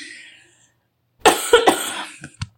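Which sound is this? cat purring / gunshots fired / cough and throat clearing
cough and throat clearing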